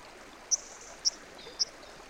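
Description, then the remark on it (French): A steady, soft rush of the flowing wild Estena river, swollen after a rainy autumn, heard inside a dense riverside wood of willows, alders and ash in a park, fills the background, with three short, high-pitched chirps rising above it at even intervals. “Nous nous trouvons à l'intérieur d'un bois touffu de la rive qui accompagne la rivière sauvage Estena dans son cheminement à travers le parc.”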